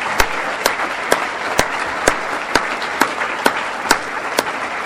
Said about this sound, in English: I think Ronald Reagan deserves a Republican round of applause.